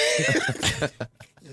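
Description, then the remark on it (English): A mouth-made fart noise: a loud, buzzing raspberry lasting under a second, followed by a few short, softer sputters and breathy puffs. “Let me explain why I just did that fart noise.”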